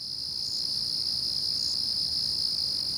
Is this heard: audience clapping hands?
no